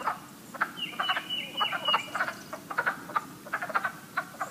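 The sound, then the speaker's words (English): A breeding chorus of wood frogs in a fishless wetland pool clucks and croaks in overlapping bursts, a dense, duck-like chatter that continues steadily throughout, with a higher sustained note briefly threading through. “Listen for choruses of wood frogs in a pool near you. They sound like a room full of arguing ducks.”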